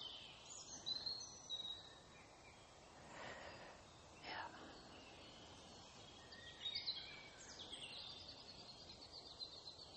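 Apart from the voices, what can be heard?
birds singing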